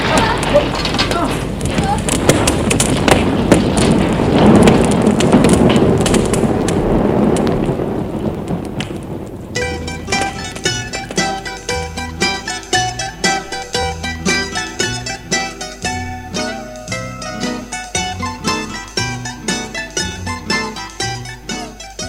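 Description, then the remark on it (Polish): A loud, roaring blaze of burning bushes with dense crackling and popping fills the first nine seconds, then cuts abruptly to rhythmic music with a steady beat. “Tam też szaleje ogień! Palą się krzewy!”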